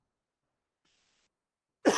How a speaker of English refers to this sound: Excuse me for the cough there.